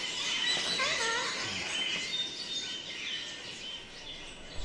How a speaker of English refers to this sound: No, I was passing and I heard the noise. What is this? Tower of Babel, eh, sir? Voices possessed by the spirit and speaking in tongues. Nay, sir, just more of these birds the gentry all want now for playthings.